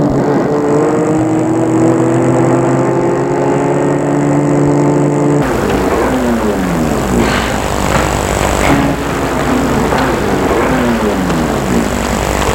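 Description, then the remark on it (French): Cars arriving at an illuminated hotel on a street lined with parked cars: a steady engine hum gives way to several vehicles driving past, their engine pitch rising and falling as they move by, loud, with no talking. “Lorsqu'ils arrivent, il y a déjà du monde, des voitures garées dans la rue de partout.”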